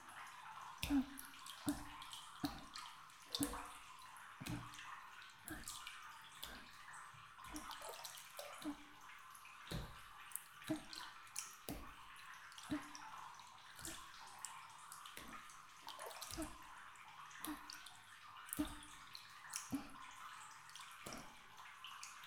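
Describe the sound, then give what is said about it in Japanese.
Soft, rhythmic tapping on the shoulders as a light tapping massage, a steady series of light muffled pats repeating about once a second over a faint hiss, with no talking. “ずは軽く叩いていくね”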